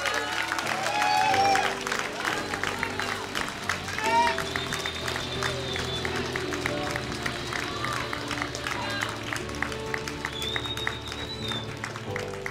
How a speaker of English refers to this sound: So let's raise to our feet wherever we're at. Come on. And we're going to thank God with a loud clap and a shout of praise, just as they did. Let's thank the Lord.